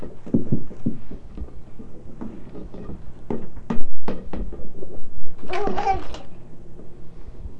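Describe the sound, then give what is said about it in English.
A medicine cabinet door, kept closed with a chopstick, is opened with a few sharp clicks and knocks followed by a brief rattling burst, while a young child babbles in the background. “You gotta open that door? Please. No, no, no, that's the medicine. That's the medicine cabinet.”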